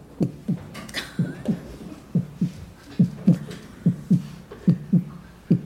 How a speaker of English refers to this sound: With snow, because winter came, and those drum beats started to get fainter, just like the grasshopper's heartbeat.